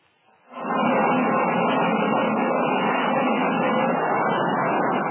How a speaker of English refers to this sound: A transoceanic airplane prepares to land on an East African airfield.